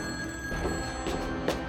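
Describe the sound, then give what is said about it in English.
A telephone bell rings in a house with a steady, buzzing metallic tone, clear, with a few short bursts of clatter near the end. No one speaks. “The phone rang, sawing across my nerves.”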